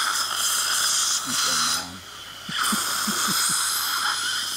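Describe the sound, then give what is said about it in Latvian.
A dental saliva ejector in a dentist's office gives a steady, loud airy hiss of suction, briefly dipping quieter midway, with wet gurgling and slurping pops mixed in as saliva is drawn up. No one speaks. “Bet ko viņš atsūcējs? Atsūcējs iekalas.”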